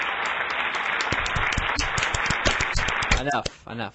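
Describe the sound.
Loud hand clapping in a studio, one person clapping for himself in a quick, steady run for about three seconds, followed by a brief burst of voices as it ends.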